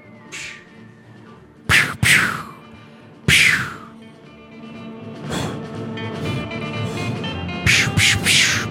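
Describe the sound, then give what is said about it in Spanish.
Several sharp gunshots heard in the distance crack out in irregular bursts, a pair, then a single loud shot, then a quick cluster near the end, each with a short ringing tail over a low murmuring background. “¿Pero qué es lo que oigo allá en el fondo? Parecen disparos.”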